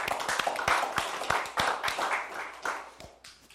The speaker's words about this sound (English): So, let's do a round of applause.